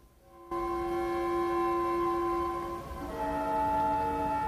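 Railroad ambience as a train's horn blares loudly and steadily, its chord shifting partway through, over a constant low rumble of the passing train.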